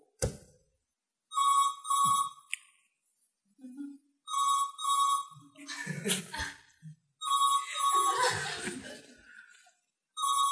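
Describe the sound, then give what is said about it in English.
A telephone rings loudly in three bursts of a double-pulsed electronic trill, separated by short gaps filled with chuckling and laughter. “Here is your telephone call.”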